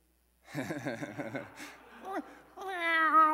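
A human voice chuckles briefly, then lets out a drawn-out, whiny meow imitating a cat, fairly loud, rising in pitch at the end.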